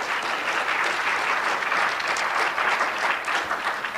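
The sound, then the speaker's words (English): Steady audience applause fills the whole four seconds, a dense, even patter of many hands clapping at a fairly loud, constant level with no voices standing out. “Go ahead, clap, lady.”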